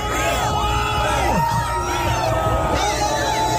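A large crowd of hundreds at a Birds Aren't Real protest against government surveillance, gathered near the arch in Washington Square Park on Saturday, October 15th, cheering and yelling: a dense roar of many overlapping voices with rising whoops and shouts, loud and sustained throughout.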